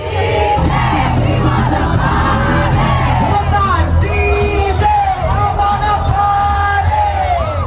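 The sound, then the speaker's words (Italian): A dense crowd celebrates in the streets of Paris on a Sunday afternoon, with a steady roar of many voices, yells and whoops rising over the din, sustained and loud throughout with no single voice standing out. “Camminando domenica pomeriggio a Parigi, questo è quello che si sentiva nelle strade della capitale.”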